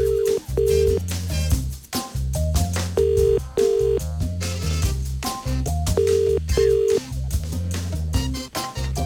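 A telephone ringing tone sounds in repeated double bursts, about every three seconds, over a steady bed of bass-heavy backing music, as a call is placed to a B&Q DIY store in Swords, Dublin. No one speaks.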